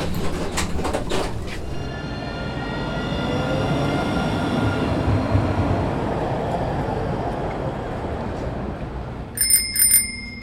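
A tram rumbles along with a steady low roar and faint metallic whines, then near the end a bicycle bell rings a few quick bright dings, in Strasbourg.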